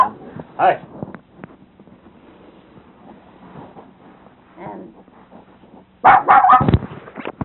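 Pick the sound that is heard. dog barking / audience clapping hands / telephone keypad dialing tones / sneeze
dog barking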